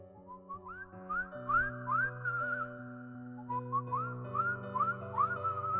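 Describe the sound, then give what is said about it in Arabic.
A whistled tune with rising, sliding notes, heard at night at exactly 3:03 a.m., approaching and then receding, repeats over a steady low drone at a fairly constant moderate loudness with no voices. “الساعة 3:03 بالظبط سمعنا صوت صفارة.”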